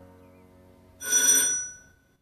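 The front doorbell of a flat rings once, a bright, shrill burst lasting just under a second before fading out, with only a low, quiet hum before it and no voices.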